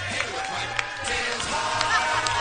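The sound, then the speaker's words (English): A crowd cheers and hollers in a steady, dense roar for Miss Double December 2015 as she walks on a show, with scattered whoops and claps popping out over the continuous wash of voices. “And the crowd goes wild.”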